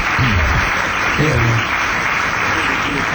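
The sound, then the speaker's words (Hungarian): Steady audience applause on a stage show for a birthday fills the whole stretch, a dense wash of clapping at even loudness, with faint voices briefly audible underneath near the start. “Azért életem, gondolj bele, semmit nem csináltam, megszülettem taps.”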